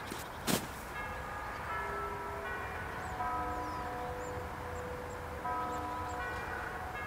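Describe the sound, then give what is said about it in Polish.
Someone rings the doorbell of a house: a sharp click, then resonant chime tones that sound one after another and linger, overlapping as they slowly fade. It is clear, with no one talking. “Więc, ja dzwonię, a ty się chowaj za winklem.”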